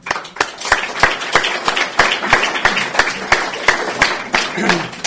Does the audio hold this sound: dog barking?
no